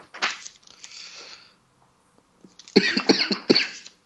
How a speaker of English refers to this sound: Excuse me. Something stuck in your throat? A little bit. Bob Eubanks never coughs in the middle of a quiz.